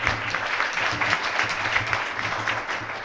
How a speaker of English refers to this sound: There's a whole group of people who behind the organization of this panel. So a huge round of applause for them as well, because this was a group effort.